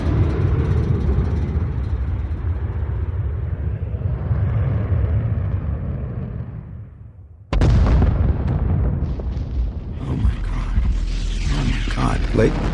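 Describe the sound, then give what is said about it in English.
A heavy, low roar like a jet engine swells and slowly fades, then a sudden loud explosive blast breaks in, followed by a sustained crackling, rumbling wash of noise: an Air Force fighter jet crashing and exploding into Jericho Mountain. “I don't want to alarm anyone, but I'm clearly a bit rattled here, and just I watched what appeared to be an Air Force fighter jet just crashing and exploding into Jericho Mountain.”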